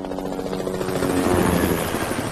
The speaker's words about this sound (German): Viele Hubschrauber fliegen in dieser Woche über unsere Köpfe. Das hat auch einen guten Grund. Der Nachwuchs lernt zu fliegen. Die Polizei bildet ihre künftigen Pilotinnen und Piloten aus, die dann zusammen in Formation über deutsche Städte fliegen.